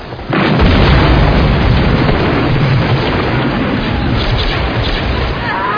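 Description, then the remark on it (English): A dense, continuous roar of battle in Serenity Valley: booming explosions and bursts of cover fire pile on top of each other, loud and sustained throughout with no pauses. “give us some cover fire.”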